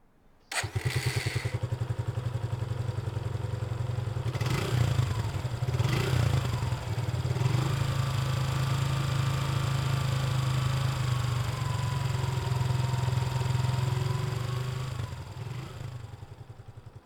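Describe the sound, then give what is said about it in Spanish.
A small motor fitted to a bicycle as an improvised motorcycle sputters to life and settles into a steady, buzzy idle for about fifteen seconds, briefly revving a couple of times before fading slightly at the end. “En 1950, recorrió solo el norte de Argentina utilizando una motocicleta improvisada, hecha con un pequeño motor acoplado a una bicicleta.”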